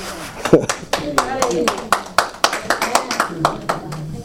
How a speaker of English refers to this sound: Thank y'all for the patty cakes. All right. If y'all going to clap, give me some real clapping now. Yeah. All right, that's better, huh? Don't patty cake the word of God now. Give us some real cheers.